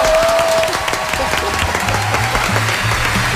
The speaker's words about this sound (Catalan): Bé, un fort aplaudiment, no?